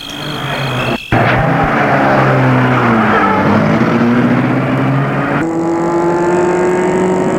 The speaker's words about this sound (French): Bien sûr, mademoiselle, entrez. Elle entre et il met la voiture en route.